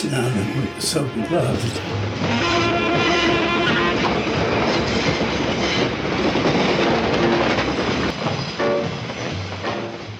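A subway train clatters steadily along the tracks, a loud, continuous rumble and rattle with a sharp hiss at the start, carrying on without a break for the whole stretch.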